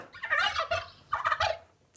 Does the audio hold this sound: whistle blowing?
no